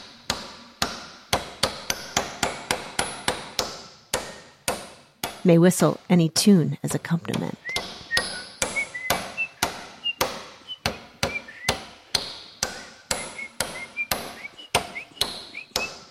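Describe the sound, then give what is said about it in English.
A performance of the score Carpenter Piece, using one piece of wood, a saw, a hammer and five nails: sharp, steady hammer blows on a nail ring out at an uneven, shifting tempo, broken midway by a burst of rasping sawing, with a brief spoken line and faint whistling among the strikes. “scores, called Carpenter Piece, reads, "Equipment, one piece of wood, one saw, one hammer, 5 nails, saw first very slow, adagio, saw second very fast, vivace, nail, rubato, various tempi."”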